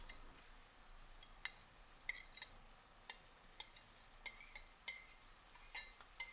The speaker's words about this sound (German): Ich nehme den Teller mit den Chilis. Ich schiebe die Chilis mit dem Messer von dem Teller in die Pfanne.